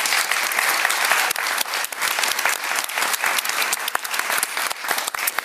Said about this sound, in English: Can I get a round of applause for our panel, please?